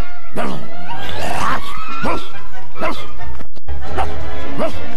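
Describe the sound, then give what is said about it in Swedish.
A dog barks loudly, about six sharp barks in an uneven string, some stretching into a whiny, yelping tone. “Den där jycken kommer att slita ut sin växellåda med den här takten.”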